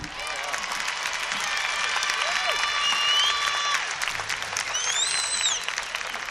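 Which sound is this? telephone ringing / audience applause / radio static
audience applause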